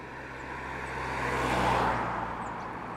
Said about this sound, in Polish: O! I to szybki samochód.